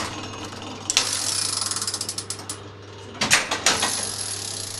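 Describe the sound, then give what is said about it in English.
The large medieval clock mechanism at Wells Cathedral in Somerset, England, being wound by hand: a quick, steady run of sharp ratcheting clicks, a short pause, then a few heavier clunks and more clicking over a low, constant hum. “At Wells Cathedral in Somerset, England, for more than 600 years, the medieval clock has been wound by hand.”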